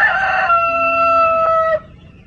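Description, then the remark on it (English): A rooster crows once, loud, with a rough opening that stretches into a long, steady, harmonic call before cutting off abruptly. No one speaks. “Our own self-made dunghill. Let's crow about it.”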